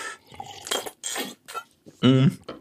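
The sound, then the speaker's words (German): A bottle being opened: several short glassy clinks and rattles, then a louder burst near the end that sounds like the cap giving way. “Und dann knackt mir das nächste auf hier.”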